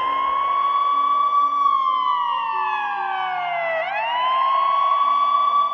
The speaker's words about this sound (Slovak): Každý tón sirény je pripomienkou, že niekde v tej chvíli niekto bojuje. S bolesťou, so strachom, s minútami. V tej chvíli niekto bojuje o život.